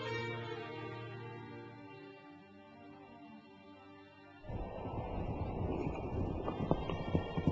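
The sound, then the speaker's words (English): A sustained, droning musical tone gives way midway to rushing, windy noise with a rapid, loud patter of galloping hooves of a horse ridden in haste toward Medina, continuing to the end. “I rode a horse and rushed to enter Medina.”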